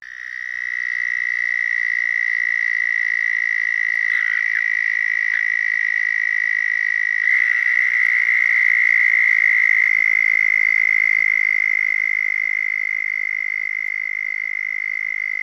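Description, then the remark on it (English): A southern toad's high-pitched, buzzing trill rings out loud, holding steady for the full length with no break, as if several overlapping calls blend together. No voices. “The southern toad's call is a trill of about 5 to 10 seconds in duration.”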